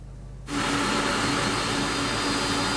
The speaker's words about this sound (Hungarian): Teherszállító repülőgép érkezik a Távol-Keletről.